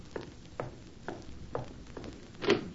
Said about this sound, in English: These thoughts occupied my mind for the better part of an hour, until at length, another knock was heard at my door.